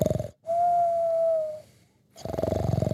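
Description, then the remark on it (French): A sleeping professor snores loudly with rumbling snores and a steady high whistle between them, in a comic snore-then-whistle pattern: a snort, a long even whistle, a pause, then another rasping snore, with no talking. “Il s'est endormi ? Ça alors ?”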